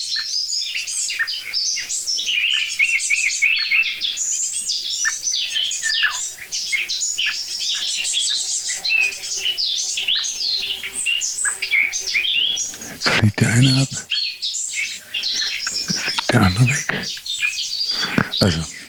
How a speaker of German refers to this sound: Jetzt ist die Meise auch genervt.